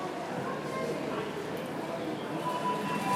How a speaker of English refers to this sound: A train has arrived.